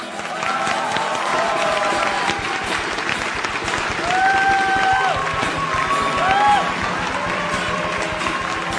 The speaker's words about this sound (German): Applaus für Jesus!